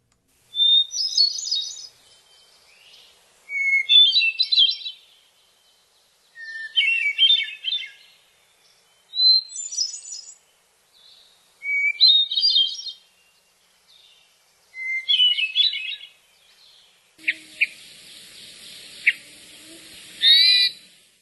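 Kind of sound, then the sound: bird, hermit thrush song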